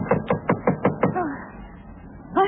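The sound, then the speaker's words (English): A quick run of six sharp, evenly spaced, loud knocks on a front door by a Coast Guard officer in the morning, followed by a brief vocal sound and a short pause. “Who's there? Front door. Who's there? Who is it?”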